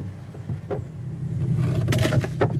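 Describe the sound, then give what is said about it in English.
A long, narrow motorboat on the Rio Indio drones steadily at a low pitch as it pulls away from the shore, with intermittent bursts of rushing, splashing hiss over the hum, growing slightly louder toward the end. “A long, narrow boat pulls up.”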